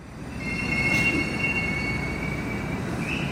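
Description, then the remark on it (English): A metro train in Russia brakes as it pulls into Gorky Park station, its wheels letting out a sustained high-pitched squeal over a steady low rumble, fairly loud, with no voices. “I get off the metro at Gorky Park, and I'm struck by the decorations.”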